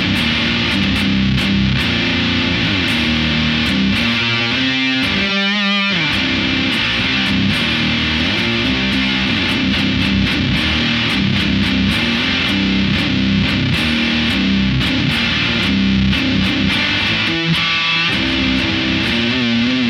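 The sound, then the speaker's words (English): Heavily distorted electric guitar played through stacked Angry Orange, Blues Disorder and Super Rodent overdrive and distortion pedals plays continuously at steady loudness, its saturated, buzzy tone thick with gain and fuzz, with strummed chords and a few choppy, stuttering bursts. No one speaks. “Now, if we were to have the angry orange and the blues disorder and add the super rodent, so add the blues disorder. Now add the super rodent.”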